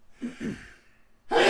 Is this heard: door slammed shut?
no